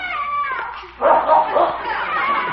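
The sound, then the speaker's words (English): A dog barks in a quick run of three or four sharp yaps behind a garage where it has found something while on a trail, following a stretch of voice-like sound at the start, with a steady background hum throughout. “That dog is real smart.”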